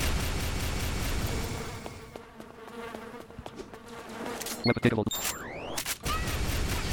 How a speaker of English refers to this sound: A lot of bees.